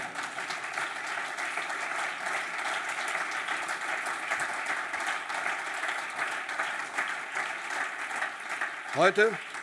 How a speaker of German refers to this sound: An der Stelle steht bei mir fetter Applaus für die NAV.